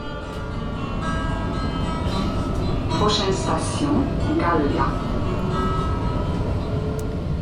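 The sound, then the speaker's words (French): Steady low rumble inside a moving, crowded tram in Strasbourg at 8:30 a.m. rush hour, with indistinct passenger voices murmuring throughout and brief higher squeals from the wheels or brakes midway. “Je suis dans le tramway, il est 8h30 du matin, heure de pointe.”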